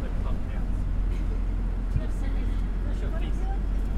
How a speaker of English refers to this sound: Today is the 18th of January, and we just arrived in Varanasi, and we're sitting on a bus.